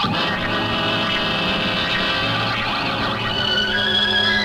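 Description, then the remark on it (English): Loud house alarms ring without pause, several shrill, steady tones overlapping in a dense, harsh wall of sound that holds its level for the whole stretch, with no voices. “Holy cow, it's the alarms.”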